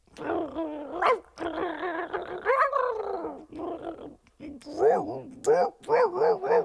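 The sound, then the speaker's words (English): A person vocally imitates a pack of about five dogs, producing a rapid string of barks, growls and yips in varied pitches, loud, with a raspy, wheezy quality in places from one dog said to have emphysema. “Ralph took off and met up with about 5 other dogs. And I can't do 5 dogs.”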